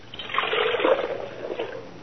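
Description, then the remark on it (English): Water pours steadily for about two seconds, a continuous splashing trickle with a bright hissy texture and no voices. “Water?”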